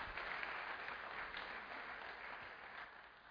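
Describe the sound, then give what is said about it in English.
An audience breaks into steady applause, a dense, even wash of many hands clapping that holds loud for about three seconds before easing slightly at the end. “Paul said, look at the, you can applaud that.”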